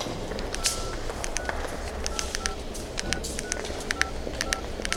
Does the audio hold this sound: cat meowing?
no